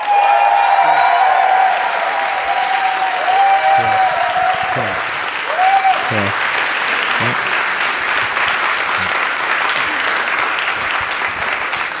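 audience applause

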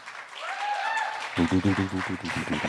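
audience applause

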